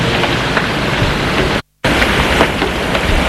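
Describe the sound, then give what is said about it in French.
Steady, heavy rain pours down in a dense, loud hiss with faint pattering droplets, cut by a brief moment of silence midway before the downpour resumes. “Les passants le dépassent parce qu'il pleut.”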